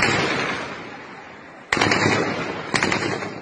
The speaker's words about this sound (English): He told me, first off, our main enemy isn't China, it's our own country's police and troops, terrorizing protesters with automatic rifles. Security forces call it crowd dispersal, but they're using live ammunition.